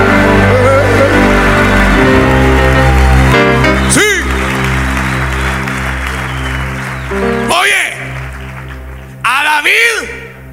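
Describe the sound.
An audience claps steadily throughout as applause for the anointing of God, a dense wash of applause mixed with sustained music and a man's voice calling out in rising, swooping shouts.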